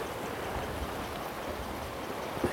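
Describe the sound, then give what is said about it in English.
Steady rushing water of a rapid river fills the scene, a dense, constant wash of flowing current with no pauses, moderately loud, with no voices. “Now it's very rapid here, so I'm going to drop my net.”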